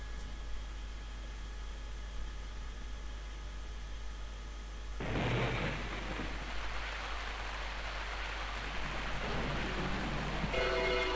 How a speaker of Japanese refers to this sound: で、雨が降ってるシーンなんですけども